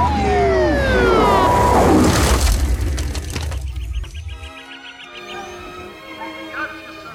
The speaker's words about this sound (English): A siren drowned … reply.